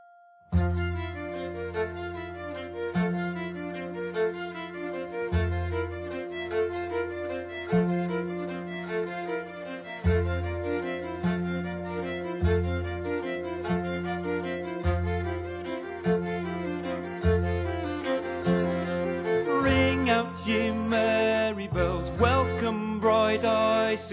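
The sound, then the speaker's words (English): A song's instrumental introduction plays alone, with steady sustained tones and a regular rhythmic pulse in the low end, building fuller and brighter toward the end. “Meanwhile, this is a beautiful song”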